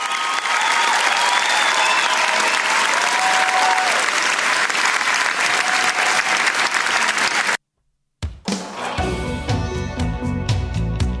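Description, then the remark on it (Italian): Loud, dense audience applause with steady clapping fills the first seven seconds, then cuts off abruptly into a brief silence before music begins. “Si dice applausi super meritati”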